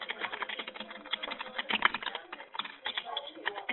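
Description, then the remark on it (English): Rapid, irregular keyboard typing from a caller's unmuted phone line on a conference call clatters throughout, a dense stream of light clicks and taps, steady, with no voices. “And whoever's typing, if you could please mute your phone.”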